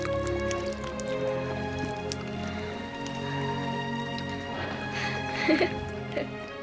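Soft, wet lapping and dripping sounds, as a horse drinking water from cupped hands, heard under steady sustained music, with a few slightly louder slurps near the end.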